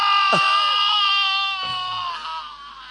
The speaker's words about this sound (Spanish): Pero algunos de estos gritos han sonado por el camino, te lo digo.